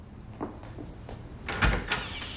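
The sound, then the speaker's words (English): A few soft footsteps lead to the clunk and rattle of a door latch, then a brief creaking sweep as the apartment door is pulled open. No one speaks. “He goes towards the door of his apartment.”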